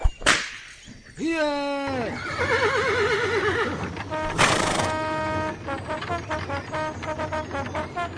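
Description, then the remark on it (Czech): A coachman cracks a whip at the horses: a sharp whip crack, then a horse's loud, quavering neigh and a second crack, followed by a steady, rhythmic clip-clop of hooves as the horses trot away. “Kočí, práskněte do koní.”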